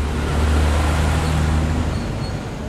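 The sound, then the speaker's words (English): A heavy flatbed truck engine rumbles steadily, its deep low drone holding amid a wash of street traffic noise, with no voices, as the truck carries a 7,500-pound piece from the Gardner's courtyard to a loading dock. “For the show, this rectangular 7,500-pound piece is on the move again, this time with help from riggers, out the courtyard, onto the sidewalk, for a ride on a flatbed truck to a loading dock, and finally up to a gallery in the Gardner's new building.”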